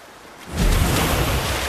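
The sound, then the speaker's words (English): After a brief quiet moment, loud splashing erupts as dolphins spin at the surface, a heavy burst of churning water and spray that continues to the end, with no voices. “The loud splashes may be a danger signal to the group.”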